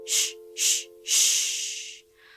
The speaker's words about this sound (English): Before we keep going, I want you to pay attention to what that breath feels like. You're not filling up with all this air, you're just allowing breath into your body. Ready? Shh. Breathing out.